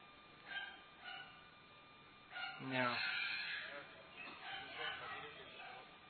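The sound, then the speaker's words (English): Dogs bark: two short barks, then a longer, drawn-out bark, followed by fainter yelps over a murmur of voices and background noise. “The dogs. He practices every day. Barking practice.”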